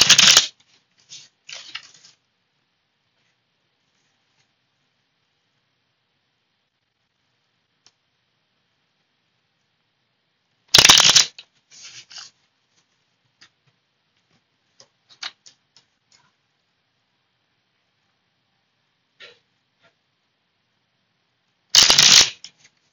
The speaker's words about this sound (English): So my little baby deck here. I'm gonna shuffle up some cards.